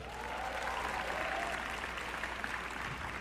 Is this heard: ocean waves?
no